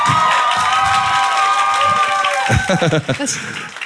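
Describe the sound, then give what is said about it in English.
A loud crowd cheers and whoops while people clap steadily, the shouting voices rising together before breaking into scattered yells near the end. “We just ended on clapping.”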